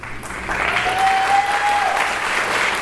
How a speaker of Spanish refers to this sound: Creo que los aplausos eran para mí, pero puede seguir usted con su disertación.